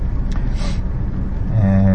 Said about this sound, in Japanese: ちょっと今車のヒーターの風を出します。なんか寒くなってきた。